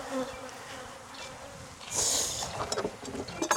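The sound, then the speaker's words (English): Many bees buzz steadily in a dense, droning swarm around an open hive where fume boards are being used to move them into a deep hive box. Individual insects whiz past, briefly growing louder before fading back into the hum. No one speaks. “And the reason I say double stinky is because when you use these fume boards, it's pretty obvious to me, even though I've never done this before, I need a place for the bees to go.”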